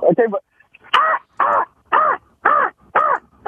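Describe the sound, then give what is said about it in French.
A man's voice mimics a crow, giving a quick opening call followed by five loud, evenly spaced caws in steady rhythm, clear with brief silences between. “Oui, moi, j'imite la corneille.”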